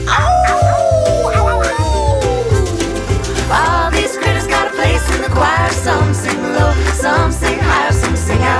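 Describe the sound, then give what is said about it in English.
Dogs bark and yip repeatedly over a loud, busy musical backing, with quick high yelps and a drawn-out whining glide early on. “Well, the dogs and the cats, they take up the middle”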